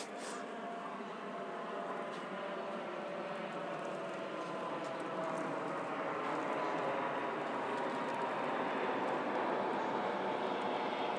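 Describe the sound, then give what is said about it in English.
A train approaching platform 2, the 08:45 Southwest train service to London Waterloo calling at Clapham Junction: a steady, broad rumbling roar that builds slowly in loudness over about eleven seconds, with no voices. “The train now approaching platform 2 is the 08:45 Southwest train service to London Waterloo.”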